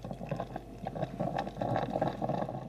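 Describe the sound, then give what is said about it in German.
A coffee machine gurgles steadily, a bubbling, sputtering liquid sound with irregular pops and hisses that swells slightly louder toward the end, with no voices. “Also ob ich mich von gurgelndem braunem Wasser wecken lassen will?”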